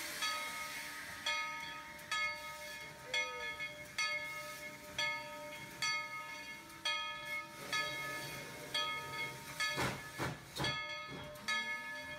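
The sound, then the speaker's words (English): An old steam train hisses and chuffs in steady, rhythmic bursts, with a sustained whistle-like tone and a few louder blasts of steam toward the end. No one speaks. “Maybe it was a trip that was taken during the labor migration on one of those old steam trains.”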